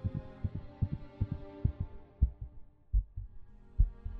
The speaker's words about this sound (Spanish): Pero el latido crecía cada vez más fuerte, más fuerte.